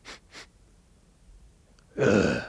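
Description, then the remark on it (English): A person imitates a mother bear sniffing the air: two quick, soft sniffs followed after a pause by a longer, louder snuffling inhale, with no talking. “And the mom looks up at me, like, sniffs the air.”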